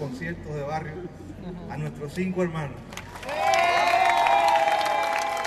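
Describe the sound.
At a concert, a man speaks over an amplified system for about three seconds, introducing five special guests, the Cuban Five, then a large crowd erupts into loud, sustained applause and cheering, with shrill whistles rising above the roar.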